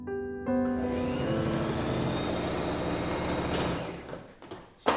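An electric sewing machine whirs to life with a steady, high motor whine over a rapid mechanical rattle of stitching, then winds down into a few loose clicks and clunks. No one speaks.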